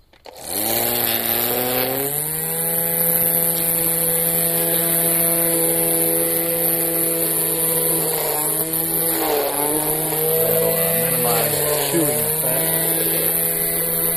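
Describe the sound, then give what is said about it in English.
A gas-powered string trimmer trimming next to the sidewalk in a backyard runs continuously after a brief start, its loud, buzzy two-stroke whine holding steady, with a few slight dips and surges in pitch toward the end. “These trimmers can be kind of tricky to learn how to use at first, too.”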